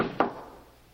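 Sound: door opening and closing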